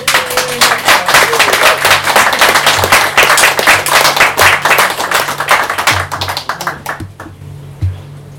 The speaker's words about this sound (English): Yeah, let's give her a clap.